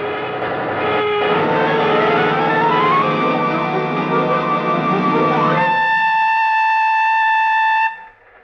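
A train rolls along the rails with a loud, dense rumble and clatter and shifting metallic tones, then a steady, high chord-like whistle holds for a couple of seconds before cutting off.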